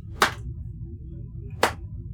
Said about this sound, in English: I just want to give a very slow clap real quick.